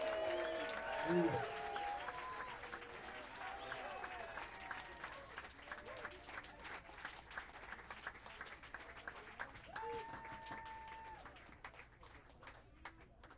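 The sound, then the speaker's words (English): A crowd applauds steadily for over ten seconds at the end of a live concert as the band members, including a bassist and the drummer, are introduced. Dense overlapping claps with a few cheers and shouted voices near the start and again toward the end before it slowly thins. “A warm round of applause, if there is any other kind, for ….”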